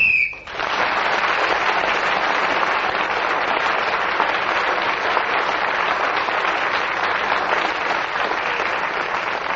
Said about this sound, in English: And she got an extra point, of course, for speaking as the whistle went.